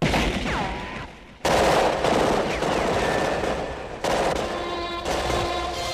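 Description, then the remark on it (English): A loud, dense gunfire sound effect, like rapid bursts from automatic weapons, cutting off and restarting abruptly a couple of times, with faint whistling tones mixed in and no talking. “reload means rewind, a gunshot means forward.”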